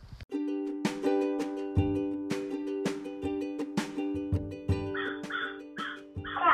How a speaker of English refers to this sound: Crow. That's the crow.